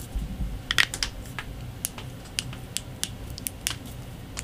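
Crisp computer keyboard typing done as ASMR, with irregular clicks and taps scattered over a few seconds, set against a low steady background hum, with no voices.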